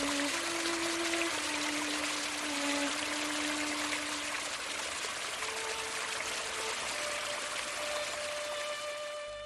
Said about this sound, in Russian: Родник, который он находит неподалеку от дома, приводит его в состояние восхищения, и он проводит долгие часы в созерцании этого родника.